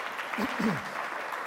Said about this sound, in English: I think that's a good cartoon. I think it deserves a little round of applause. There we go.